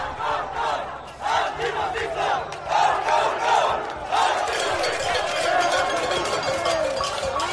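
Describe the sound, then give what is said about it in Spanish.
A protest crowd in Madrid, carrying Spanish Republican, Moroccan and Colombian flags, shouts and chants "fascists" together in a dense, roaring mass of voices, with rising and falling cries and the occasional metallic clink beneath the steady din. “Frente a los del cazo y la bandera de España que piden libertad, los de la bandera republicana de Marruecos, de Colombia, que gritan fascistas.”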